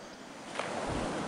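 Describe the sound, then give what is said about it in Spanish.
Ocean waves wash onto a sunny, sandy beach in a steady, hissing roar, with a low surge swelling up near the end. No voices are heard. “Es una playa. Se ve un lugar paradisíaco. Arena, agua, sol.”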